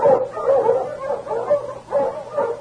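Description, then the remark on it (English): A Mountie's pack of huskies, led by the dog King, barks and yips together, overlapping mid-pitched calls rising and falling in an uneven rhythm, fairly loud and with no voices over them. “But even as they approached the village, the great dog King, leading the Mountie's pack of huskies, caught the unmistakable scent of death.”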